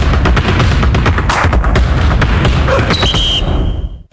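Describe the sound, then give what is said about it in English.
A loud barrage of fireworks explosions with dense popping and crackling throughout, a high whistle streaking in near the end, then an abrupt cutoff into silence. “Got fireworks? We do.”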